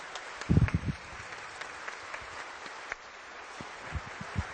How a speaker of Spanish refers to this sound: Vamos a dar un aplauso al organista.